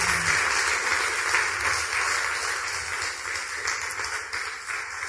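Steady audience applause for the musicians near the close of a broadcast show from ERT Larissa, a dense wash of many hands clapping at an even, fairly loud level throughout, with no voices over it.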